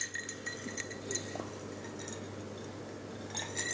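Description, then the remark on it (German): Drinking glasses clinking together in a toast, a few light, ringing taps scattered over a few seconds, faint, with a quieter cluster of chimes near the end and no voices. “Klang aber auch nicht elegant. Wir haben es nur so gemacht, oder? Ja, auch nicht besser. Sind aber die falschen Gläser”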